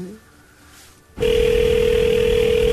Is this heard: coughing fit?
no